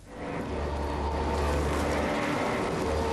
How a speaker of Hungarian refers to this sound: Döngöl a Széchenyi jégtörő. Ez azt jelenti, hogy a jégtáblákat maga alá gyűri és összetöri.